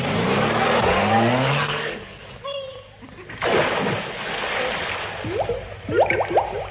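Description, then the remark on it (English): A car engine revs up with a rising whine, then the car pulls away amid rushing road noise, with a few more quick revs as it shifts through gears and drives down about 3 miles to the bottom. “Everybody in the car, we'll drive down.”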